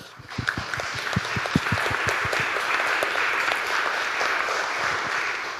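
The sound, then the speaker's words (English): A conference audience breaks into applause for the AV team, sharp individual claps at first quickly blending into a steady, dense wash of clapping that holds at an even loudness throughout. “You get your own round of applause.”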